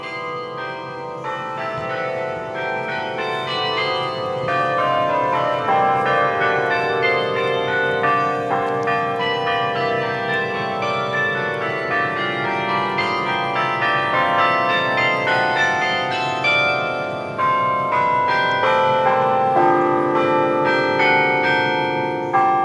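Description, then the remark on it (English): Church bells, rung by hand by a person up above, ring continuously for over twenty seconds, a dense overlapping peal of many tones with steady loudness, full and sustained, with no voices. “It's kind of nice to know there's a real person up there, ringing out the bells to say, hey, the pandemic's still on, but you can come outside.”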